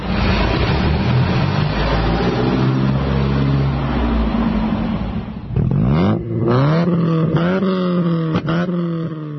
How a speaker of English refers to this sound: Well, the first of those engines was from a vintage 1930 Bentley, and the second was a 1991 Ford Sierra.